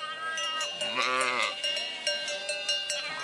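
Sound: sheep bleating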